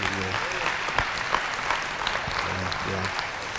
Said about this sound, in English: Yeah, let's do that again. Clap offering the Lord.